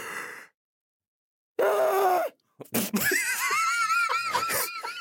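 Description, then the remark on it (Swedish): A person vocally imitates a woman's loud, screaming yawn: a strained, drawn-out cry that rises and wavers, followed by a burst of laughter and further wailing, yawning noises. “Jo, men det är inte bara att hon gäspar, utan när hon gäspar, då gör hon så här.”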